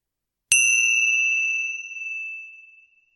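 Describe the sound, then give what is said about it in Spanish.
A small bell is struck once at the start of a guided meditation, giving a bright, clear ding that rings on and slowly fades over a few seconds, heard alone in silence with no voices. “Al sonido de las campanillas, vamos a comenzar realizando varias respiraciones profundas.”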